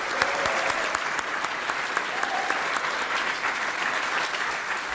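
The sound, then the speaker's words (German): An audience at a special event in the Swiss Embassy claps steadily and densely, many hands blending into a continuous, even wash of applause with no voices standing out, holding at a constant loudness throughout. “Ja, ihr könnt ruhig nochmal klatschen.”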